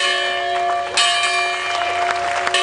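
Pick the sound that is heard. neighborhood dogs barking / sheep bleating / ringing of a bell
ringing of a bell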